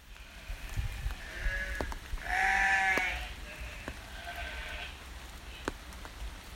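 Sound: sheep bleating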